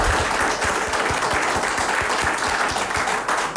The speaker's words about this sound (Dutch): Geef maar applaus.